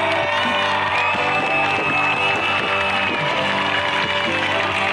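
A loud crowd at a packed concert in Podgorica applauds, cheers and gives ovations continuously, with music with a steady beat underneath. The noise stays dense throughout.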